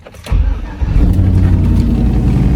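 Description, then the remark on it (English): A car engine cranks briefly after the key is turned and catches, then rises into a steady, loud rumble as it revs and settles, with no voices. “I think I was supposed to start twist the key a couple times here, but I guess I just got too excited and didn't do it.”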